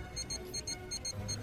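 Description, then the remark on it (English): A clock at the pole sounds midnight with a rapid, evenly repeating series of bright, high-pitched metallic pulses, steady, with no voices. “The clock just struck midnight at the pole.”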